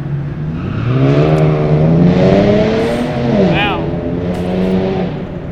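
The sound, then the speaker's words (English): A car drives past, its engine droning loudly and climbing in pitch as it accelerates, with a brief sweeping whine partway through before it settles into a steady hum. “But I believe that was just a car”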